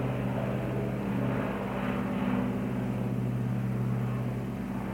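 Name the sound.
airplane flying overhead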